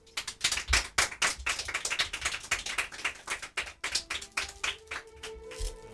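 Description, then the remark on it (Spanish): An audience claps steadily for the four winners of a literary contest, many hands producing a dense, crackling patter that holds for several seconds before thinning out, with a faint sustained tone running underneath toward the end. “Vaya para los cuatro este fuerte aplauso de todos los que nos acompañan aquí.”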